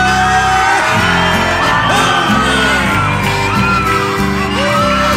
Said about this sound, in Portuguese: Quem tá largado dá um grito.